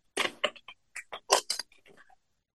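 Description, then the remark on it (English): An Angels, Gods, and Goddesses card deck is shuffled for a card reading: a quick, uneven run of crisp papery snaps and flutters, louder at first and trailing off softer after about two seconds, with no talking. “Now, you would think I would have gotten much better at shuffling by now, but I have not.”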